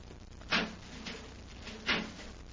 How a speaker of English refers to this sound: a metal door, Hap. Let's see if we can open it.